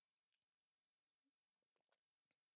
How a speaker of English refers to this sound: Oh, and should I do some AMSR while I take a sip? Yeah, there you go. Get it.